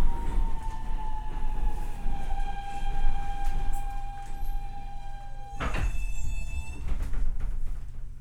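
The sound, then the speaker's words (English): An uptown A subway train riding to Washington Heights rumbles along with a steady low roar, its wheels and motors whining in long sustained tones, then a sharp clattering burst midway before the ride continues. “Just riding the train to the top of the subway map.”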